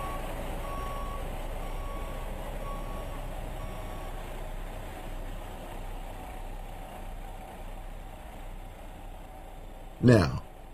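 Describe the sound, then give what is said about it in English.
A truck's engine rumbles steadily while a backup alarm beeps in an intermittent, mid-pitched pattern, ending with a sudden louder burst of noise. “Take that truck and give me that clipboard and get out of here.”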